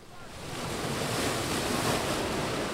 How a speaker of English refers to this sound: Only a handful of kids are catching the small waves breaking on Capitola's beach. The surf here isn't that big.